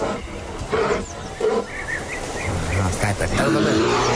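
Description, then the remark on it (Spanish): A loud bear roar, rough and growling, swelling in several bursts and then rumbling deeper and heavier toward the end, with no talking over it. “dame el rugido del oso de Coolbet”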